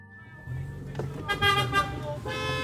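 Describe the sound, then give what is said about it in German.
Several car horns honk and overlap in chaotic city traffic, heard from a car trying to drive out of the city, with sustained tonal blasts layered over a low engine rumble, loud. “diesmal in Ankas Auto. Sie fährt uns raus aus der Stadt, also sie versucht's zumindest. Ist ja furchtbar, ist ja Chaos hier.”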